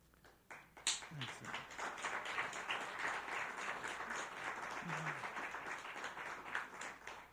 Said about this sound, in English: You know, I really appreciate your applause, and out of courtesy or out of hurry up and get through, but I'll ask you, don't applaud.